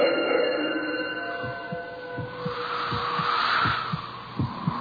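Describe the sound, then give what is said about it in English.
A steady, muffled heartbeat thumps at a regular pace, around half a dozen low beats, set against a continuous eerie drone and hiss, with no voices. “Let your heart beat in time with the one who waits upon the guillotine.”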